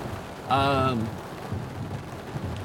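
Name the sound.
heavy rain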